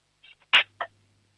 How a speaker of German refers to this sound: dann nimmst du so 5-6 Gabeln und lässt sie so richtig schön reinscheppern in die Lade, damit dann haben wir ein bisschen Lärm hier im Radio, das ist auch immer toll.